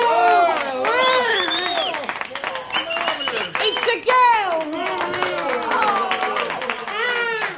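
A lively group of elderly men in stripy pyjamas in a hospital men's renal ward rise from their beds and cheer and clap together, overlapping whoops and shouts riding over steady, dense applause that stays loud for the whole stretch.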